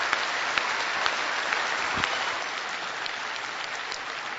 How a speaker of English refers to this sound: So just how about a big PCC round of applause for our people who are out there doing it every day.